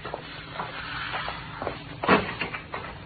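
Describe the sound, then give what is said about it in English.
A street door is opened: soft shuffling and rattling give way to a single sharp clunk of the latch, then a few lighter knocks as it swings. Moderately quiet, nobody speaking. “Go out first, Pop, and open the street door.”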